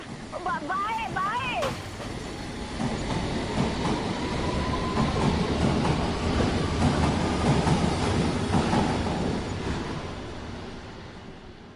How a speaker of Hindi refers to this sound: और गड्डी आ गई मम्मी जी, बाय बाय।